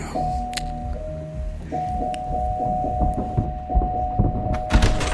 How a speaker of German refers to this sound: Ja. Komm, klingel mal.